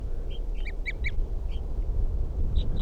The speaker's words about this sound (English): Toops of the wild bird responding to the decoys. Stop. Toops of the wild bird. And that's 305 who's tooping there.